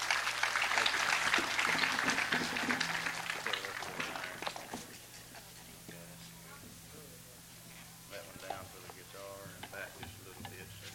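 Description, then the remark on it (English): A crowd applauds loudly as a picker and singer from South Carolina and his wife are welcomed onto the stage, with dense, rapid clapping that gradually thins and fades out, leaving scattered claps, murmuring voices and a low steady hum toward the end. “Let's clap them on the stage.”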